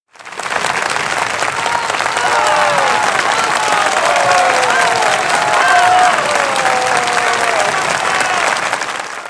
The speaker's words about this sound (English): The train driver and the passengers applaud to show their gratitude to the children.